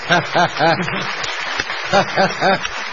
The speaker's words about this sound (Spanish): Sí. Le regalamos un aplauso, pide.